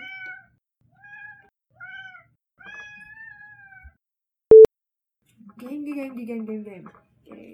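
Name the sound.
cat meowing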